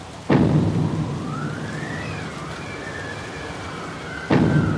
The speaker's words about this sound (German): Es ist Nacht und draußen, da tobt ein heftiger Sturm. Die Wellen, die schlagen heftig auf die felsige Bucht. Die Bäume an Land biegen sich ebenso heftig.